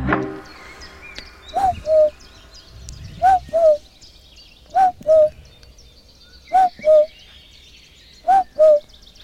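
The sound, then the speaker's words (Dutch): A person whistles an imitation of a cuckoo, repeating the two-note "cuck-oo" call four times at a steady, unhurried pace, clear over a quiet outdoor background with faint birdsong, at the edge of the Amsterdamse Waterleidingduinen dunes. “Oké, dat was de koekoek. Ja, dat was ik, die de koekoek nadeed.”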